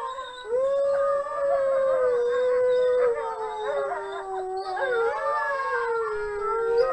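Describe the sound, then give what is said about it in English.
A pack of wolves howls together in a sustained chorus, several long overlapping wails rising and falling in pitch, with a few higher yips woven through, steady and fairly loud throughout. “This is a wolf chorus.”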